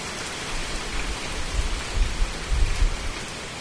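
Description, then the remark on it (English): Steady rain patters on a hard surface, a dense hiss of drops with a few heavier low thumps swelling midway, no voices present. “When it rains in Tuscaloosa and Huntsville, things like erosion and a threat to wildlife may not cross your mind.”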